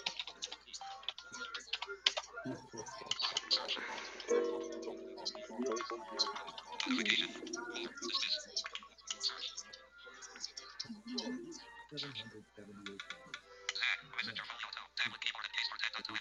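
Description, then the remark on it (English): Steady clatter of typing on a Bluetooth keyboard, rapid irregular key clicks, with a voice murmuring faintly in the background at times. “Bluetooth keyboard.”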